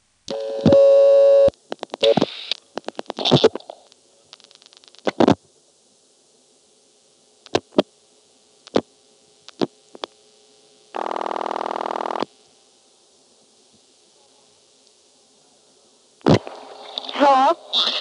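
A telephone line tone gives way to a sparse series of sharp switchhook clicks flash-dialing a number in Plainfield, then one steady ringing burst of the called line lasting about a second, followed by quiet and brief muffled activity.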